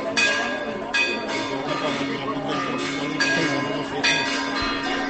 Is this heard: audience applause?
no